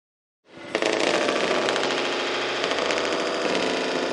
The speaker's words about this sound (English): Fireworks flying here at Medlin Field, Lebrano Park. You get used to it. It's going to be tomorrow night as well.